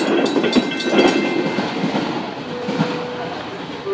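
A train rolls steadily along the rails, its rumbling clatter and metallic squeals filling the scene, with faint voices in the background.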